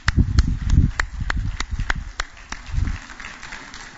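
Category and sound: crowd, round of applause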